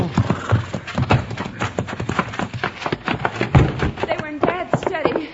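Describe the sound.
Hooves of a horse named Buckshot clip-clop in a quick, uneven rhythm of sharp knocks as it is brought to a stop, with a brief voice-like sound near the end.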